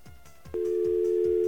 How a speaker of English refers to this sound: That dial tone sounds a little low in pitch, doesn't it? It sounded funny to me a couple of times.